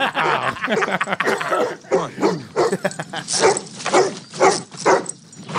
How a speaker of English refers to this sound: Let's go to footage from the monkey attacking this dog or these dogs. Okay, here's one angle.